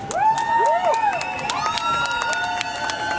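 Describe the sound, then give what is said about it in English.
A crowd of fans cheers and shouts continuously as the players' team bus departs for the airport, with high whoops and rising yells layered over a steady roar of excited voices for the whole few seconds. “Of course, people here cheering them on as the excitement builds up.”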